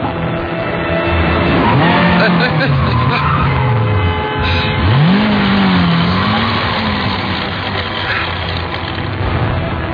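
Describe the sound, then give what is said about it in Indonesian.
A loud motorcycle engine drops in pitch as the rider brakes hard to avoid hitting a schoolchild crossing the road, with tires skidding and scraping, then revs back up, all over a dense, continuous road rumble. “aku hampir saja menabrak anak sekolah yang menyeberang tadi. Aku pelankan laju motorku karena aku takut terjadi hal yang tidak diinginkan.”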